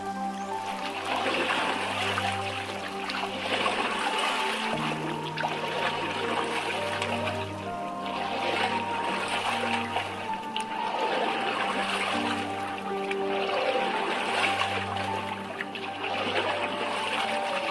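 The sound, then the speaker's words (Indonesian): Steady river water trickles and laps continuously around a boat, an even wash of flowing sound with a low hum underneath and no voices. “Pengawal, tambatkan perahu di pinggir sungai.”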